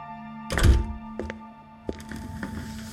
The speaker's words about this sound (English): Creswell closes the door, takes a seat.